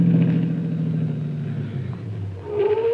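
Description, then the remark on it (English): Miss Miller's car engine rumbles steadily as the car drives up, its low drone shifting pitch as it approaches and then rising again near the end, with no one speaking. “There's Miss Miller's car, Chief.”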